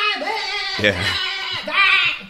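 A woman's wavering, high-pitched scream wails over a harsh, angry guitar riff, with a heavier low burst of guitar around the middle before the shrill vocal returns loud.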